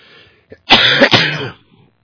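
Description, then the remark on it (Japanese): A short burst of harsh, throaty coughing, two rough coughs in quick succession, loud, preceded by a faint click and followed by quiet. “さっきからこう咳込んでまして申し訳ないんですが”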